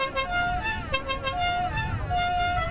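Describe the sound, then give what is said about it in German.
A crowd of about 100 rally cars gathered before the start at the Fischmarkt in Hamburg, with overlapping horn toots sounding in changing pitches over a steady low engine rumble, fairly loud and continuous throughout. “Um uns herum stehen rund 100 Rallye-Autos auf dem Hamburger Fischmarkt.”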